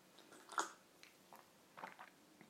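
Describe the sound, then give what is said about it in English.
A quiet slurp of hot filter coffee brewed with an AeroPress: one sharp airy sip, then a few softer wet mouth sounds and small sips scattered over the next couple of seconds, with no talking. “Bit of a slurp has to go with it.”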